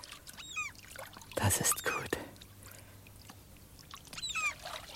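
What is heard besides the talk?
water lapping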